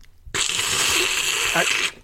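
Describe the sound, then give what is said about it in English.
A long, loud slurp of hot chocolate: one continuous airy, hissing suck lasting about a second and a half, starting and stopping abruptly, with no talking. “I can't stand that slurping noise you're making.”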